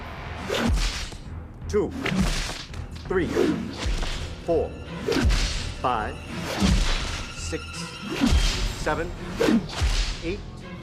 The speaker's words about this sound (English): The guards start to whip Jakar.